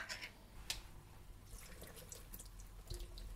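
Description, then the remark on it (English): Liquid from a just-opened can of chickpeas splashes and trickles into a sink as the chickpeas are drained for a chickpea curry, a steady pour with scattered drips and small splashes, no voices. “Yeah, so we're going to start off by opening the chickpeas and just draining the water.”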